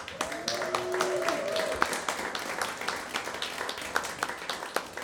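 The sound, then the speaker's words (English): A crowd in a barn at a Project Drew event applauds the songwriters with dense, steady clapping that holds for about five seconds, and a sustained whistle or cheer rings out over it during the first couple of seconds. “So a shout for our songwriters.”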